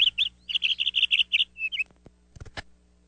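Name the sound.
birds chirping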